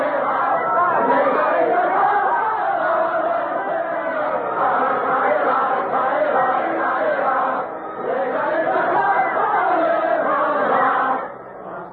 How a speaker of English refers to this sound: They're singing about hanging all aristocrats from lanterns. The streets of Paris, you know, are lighted by lanterns swung on ropes stretched across the roadway. But let's listen to the singing.